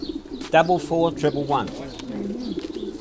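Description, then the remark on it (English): Racing pigeons coo in a low, throaty burble, several soft calls overlapping, with indistinct human voices mixed in around them, at a community centre in Canning Town, London, where flying club members are registering their pigeons for a weekend race. “I've come down here to the Cundy Community Centre in Canning Town, where members of the Newham Invitation Flying Club are registering their pigeons for this weekend's big race.”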